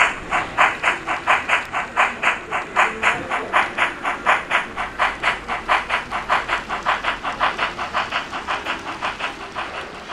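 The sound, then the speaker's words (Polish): Rhythmic chuffing of a model steam locomotive running on a large model railway layout in the Oliwa shopping centre, steady puffs repeating about three times a second, prominent, gradually easing slightly in loudness, with no voices. “Dzięki temu każda lokomotywa zatrzymuje się lub rusza, nadaje sygnały dźwiękowe.”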